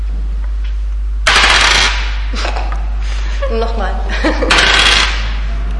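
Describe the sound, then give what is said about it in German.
Dice are rolled to decide who starts a game; they rattle and clatter across a hard surface in two quick, loud bursts, with a brief spoken word and some soft voices between the rolls. “Hier, dann würfen wir.”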